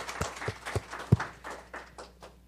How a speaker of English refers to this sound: So isn't that exciting? Yeah, let's give a hand clap.